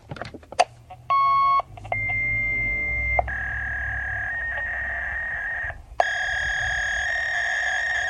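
A fax machine transmitting: a quick burst of dial beeps, then a sequence of steady electronic tones and a long, shrill handshake screech, loud with no voices.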